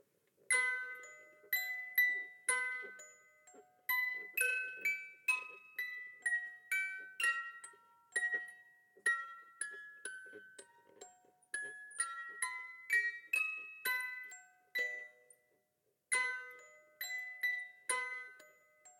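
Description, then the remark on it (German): A small hand-cranked music box, set on someone's knees and turned by hand among many people, plays a bright, tinkling melody of plucked metal tones, each note ringing briefly before the next in a steady, slightly uneven rhythm, with no voices. “Ich habe mein Geschenk aus dem Papiersack gezogen und habe das kleine Nörgeli auf die Knie gestellt und habe angefangen zu drehen.”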